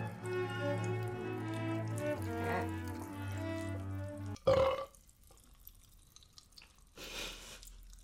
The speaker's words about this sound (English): I don't know how much longer I can hold. Oh, I got a burp.